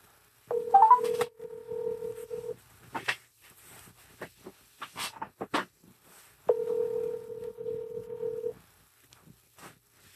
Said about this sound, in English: Let's make the phone call now. All right. So he's waiting for our call. Let's do that.